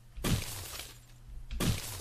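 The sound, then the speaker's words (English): A video game sound effect of a rock landing: two loud, harsh crunching impacts about a second and a half apart, each with a noisy, rumbling tail that fades out. “So that's a rock sound. Rock lands.”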